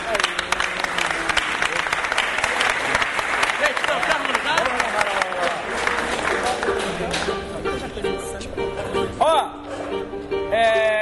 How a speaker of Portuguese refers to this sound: Vamos aplaudir, gente. Vamos aplaudir o compositor.